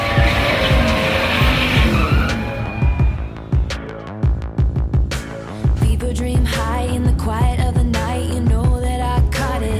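Loud race car engines roar and rev hard at full throttle, with repeated sharp bursts and screeching tires across the whole stretch, close and intense with no voices.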